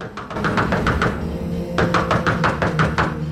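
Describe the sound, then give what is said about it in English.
A quick series of firm knocks on a door, a short pause, then a second run of rapid knocks, solid and fairly loud over a low background hum with no voices. “Matt's still sketching when there's a knock at the door.”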